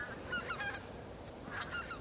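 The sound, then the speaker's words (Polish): Geese flying over, unseen, honk in two short bursts of nasal calls, fairly faint, with a soft outdoor hiss underneath and no one speaking. “Słyszymy chyba przelatujące gęsi, chociaż ich nie widzimy.”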